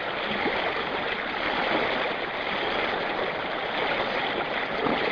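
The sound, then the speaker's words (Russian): River water lapping and gurgling against stones near a narrow iron footbridge, a steady rushing wash that never lets up, with no voices or other sounds. “А вот с читателем можно послушать, как шумит волна у камней недалеко от железного мостика шириной со ступни.”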